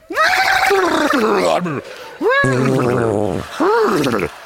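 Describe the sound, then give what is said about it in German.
A person's voice imitates a horse's whinny in three loud bursts, producing sputtering, wavering whinny-like sounds that come out more like a flapping, farting noise than a proper neigh. “Das war ein furzendes Pferd, aber kein Wiehern.”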